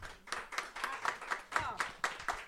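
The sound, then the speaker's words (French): Studio audience of a game show applauds to vote on a quiz answer about a bilboquet world record, in a steady rhythmic beat, about ten sharp claps in unison over a couple of seconds, with no talking. “On a beaucoup d'applaudissements.”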